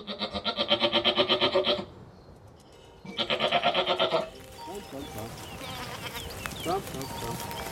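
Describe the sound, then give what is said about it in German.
Two loud, quavering bleats from a herd of 150 Toggenburg dairy goats on their way to the heath in Brandenburg, separated by a short pause, then give way to a busy outdoor backdrop with faint chirps and rustling. “Und eine Herde von 150 Toggenburger Milchziegen ist unterwegs auf die Heide in Brandenburg.”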